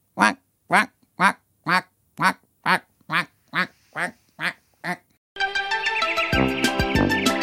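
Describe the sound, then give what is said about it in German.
Quacking duck shoes, worn by a teacher walking out of the staff room to her next lesson, squawk about eleven times in a steady walking rhythm, each quack loud, before a burst of bright music abruptly takes over. “Sie hat allerdings die Entenschuhe angelassen.”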